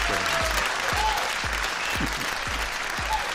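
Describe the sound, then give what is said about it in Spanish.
A mountain community audience claps steadily in sustained applause for Antonio Waldner, dense and fairly loud, with a few stronger rhythmic beats standing out among the scattered hand claps. “Antonio, este aplauso que viene es para vos a lo grande.”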